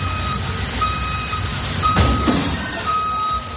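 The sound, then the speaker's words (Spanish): A large tour bus's engine rumbles while reversing beeps sound at intervals in a very narrow street, Calle Augusto Figueroa in Chueca, Madrid, then a short, harsh crunch as it hits a wall midway before the beeping resumes. “Escucha el momento en el que chocaba contra una pared al echar marcha atrás.”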